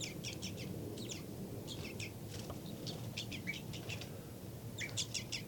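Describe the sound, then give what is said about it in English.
Bird alarm and flight calls, with an alarm call by bird 3-3 and flight calls by bird 5-9: quick clusters of sharp, high chirping notes recurring throughout, over a constant low rumbling background with no talking. “Alarm call there by 3-3 back into a tube series. Flight calls by 5-9.”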